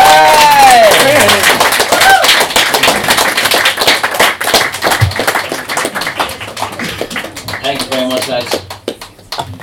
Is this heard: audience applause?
yes